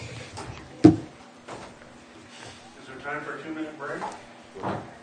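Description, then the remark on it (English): A door shuts with a sharp, solid thud near the start, followed by a softer knock, then muffled voices murmuring in the background. “Close the doors, seal the hatches there”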